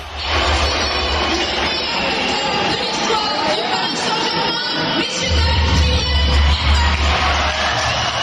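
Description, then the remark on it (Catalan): A large stadium crowd at the Parc des Princes whistles loudly and continuously in disapproval at Messi as his name is announced over the public address before the match, a dense, shrill wall of sound with a deep rumble underneath, sustained for the whole stretch without letting up. “Ja abans del partit el van rebre amb xiulets quan el van anomenar per megafonia, uns xiulets que contrasten amb els aplaudiments posteriors pel francès.”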